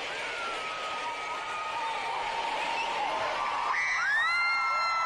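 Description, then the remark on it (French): A dense concert crowd screams and cheers continuously at high pitch at the start of the show as the lights are dimmed, a loud sustained roar of many voices with rising whoops near the end, no individual speech. “Je vous fais écouter comment ça sonnait au début du show.”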